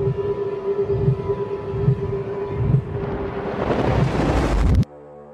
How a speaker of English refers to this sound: Spike, blow the shofar now.